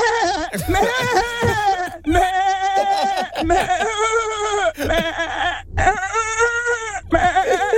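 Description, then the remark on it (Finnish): A person imitates a sheep, giving a string of loud, wavering bleats, each quavering cry separated by brief gaps, with no other talk. “Aika hyvä lammas.”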